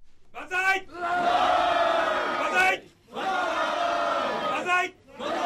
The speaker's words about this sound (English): At Liberal Democratic Party offices across Japan, the banzai cheer went up.